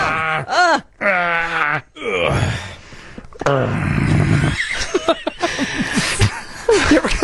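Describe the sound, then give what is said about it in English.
A man lets out a series of drawn-out, growling groans with wavering pitch, some strained and rising, broken by a raspy breathy stretch midway. No words, just loud vocal moaning: an old man's growling noise, the kind made when sitting down. “An old man noise, you know? Sort of I do growling. That when I sit down sometimes.”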